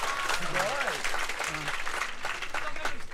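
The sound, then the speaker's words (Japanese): A crowd applauds steadily for a few seconds, a dense, lively patter of many hands clapping at once, with faint voices or cheers rising briefly within it. “だけどなんか果たして拍手した人が何枚レコードを買ったかというのは疑問であります一人しかいなかった。”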